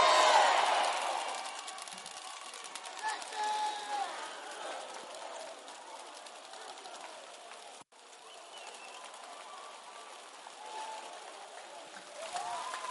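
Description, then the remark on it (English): An audience claps and cheers in a steady, dense wash of sound, louder at the start, with scattered shouts rising above it. It cuts out briefly, then carries on. “Keep clapping if you want to clap.”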